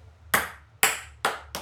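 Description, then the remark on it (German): A ping pong ball, thrown in a beer drinking game, bounces into a beer tasting glass: four sharp, bright clinking hits with quick decays, spaced unevenly and getting closer together, with no talking. “Er ist in einem Bierglas gefallen, aber nicht das Richtige.”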